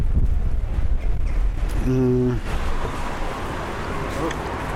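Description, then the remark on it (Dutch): Wind buffets the microphone in a steady, loud low rumble that lasts the whole time, with a brief tonal hum rising out of it partway through. “Ondertussen is de wind ook nogal aanwezig.”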